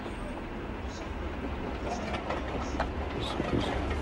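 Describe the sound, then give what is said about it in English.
A train rumbles along steadily, with a low continuous roar and occasional light metallic clatters and hisses, as though pulling into a station. “Eric starts packing away his things and shrugs into his coat as the train pulls into the station.”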